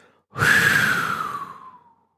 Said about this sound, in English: We begin by taking a few deep breaths in, blowing out forcefully all the noise and mental traffic in our mind, all the ego structure, all the thoughts, feelings, and images.